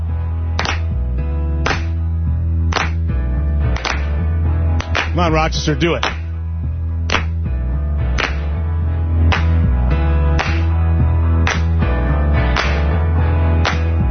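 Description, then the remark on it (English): Sharp, steady claps land about once a second over a sustained musical backing, with a brief burst of talk partway through before the rhythmic clapping carries on; clapping practice in a studio going into a break on a call-in show. “We're going to start practicing our clapping.”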